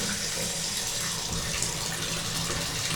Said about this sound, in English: All right, this water's getting a little bit cool. We need to turn the hot water on with my left foot. Yay. There we go.